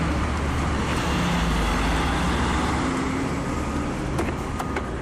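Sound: city street traffic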